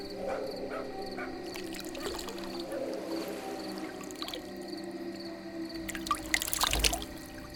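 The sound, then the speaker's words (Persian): Water is poured and splashed over hands in a short, close burst near the end, rising out of a steady background hum with faint dripping and gurgling earlier on. “یه آب دیگه بزنم دستورو.”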